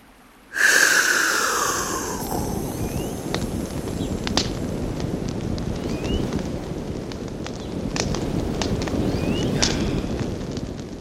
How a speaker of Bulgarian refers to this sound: Духна и огънят наистина се запали.